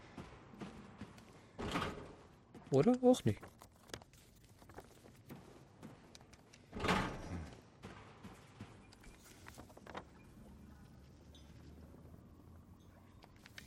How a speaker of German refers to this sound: Kann ich, glaube ich, die Tür von der anderen Seite entriegeln.